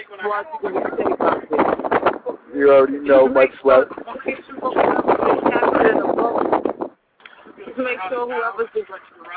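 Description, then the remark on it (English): A man speaks over a phone-quality line from a boat while steady wind rush and boat noise run beneath his voice, growing into a broad, noisy roar midway before a brief pause. “Dang, man, you got a lot of noise, but whoever's the captain of that boat over there, man, make sure they ain't drinking and steering that boat, because you don't want nobody, you know, having no mishaps.”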